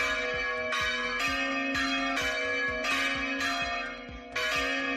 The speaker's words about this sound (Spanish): Las campanas de toda la región repicarán al unísono como representación del clamor popular contra la despoblación y el abandono.